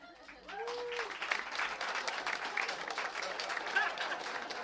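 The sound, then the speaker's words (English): An audience breaks into loud, sustained applause, dense clapping from many hands for several seconds, with a brief vocal whoop or cheer rising at the very start. “Round of applause if you think that men with cats are weird.”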